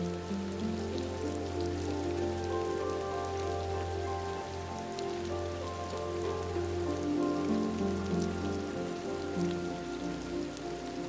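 Steady rain falls continuously on a garden with trees and rocks and on a koi fish pond, rippling its surface, a dense, even patter of drops, with a soft sustained tonal hum underneath and no voices.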